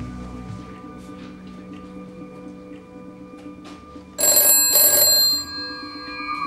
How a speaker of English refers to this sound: Jean comes out of his office as Elaine answers the phone.